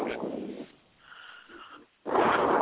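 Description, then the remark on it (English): Two loud, breathy gusts of air blown into a microphone, separated by a quieter pause, producing rough, wind-like noise with a distorted, muffled rush. “Stop breathing into the mic.”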